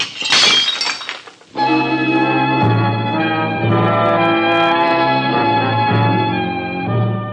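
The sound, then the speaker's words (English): A dish smashes with a loud, bright crash and scattering shards for about a second and a half, then sustained, steady musical chords take over and hold for the rest. “I'm going to break another dish.”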